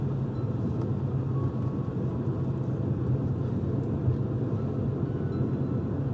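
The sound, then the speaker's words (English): Heavy trucks hauling mounds of trash rumble past one after another near the Greenbrier in West Virginia, a steady, continuous low roar, their engines droning without pause at moderate volume, with no voices heard. “Truck after truck coming out, just hauling mounds of trash.”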